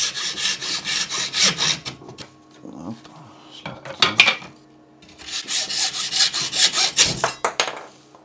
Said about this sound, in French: Et donc du coup, j'ai la petite fente pour pouvoir couper la raquette bien au endroit où il faut. Donc, on va jouer un petit peu de la scie à métaux. Ah bah là, c'est l'artisanat...